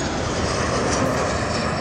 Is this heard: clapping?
no